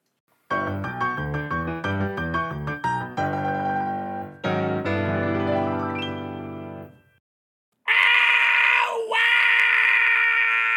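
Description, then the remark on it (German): A person shrieks loudly and at length, a harsh, strained scream that wavers and breaks, then after a short pause a second piercing, high-pitched shriek rings out, as a school dentist leans over him. “Kreischt Ricky, als sich Frau Dr. Hauerschau Borneo über ihn beugt.”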